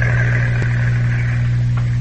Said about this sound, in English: The engines